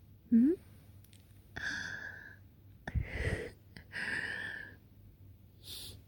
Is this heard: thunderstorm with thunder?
no